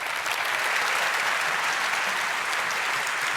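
Steady, dense applause from an audience, a continuous crackle of many hands clapping at an even loudness throughout, with no voices rising above it.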